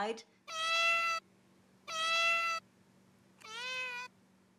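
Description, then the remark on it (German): A cat meows at a door, wanting to go out, three times in a row, each call long and drawn-out with pauses between, fairly loud; the last meow is a little softer with a shifting pitch. “Die Katze möchte raus.”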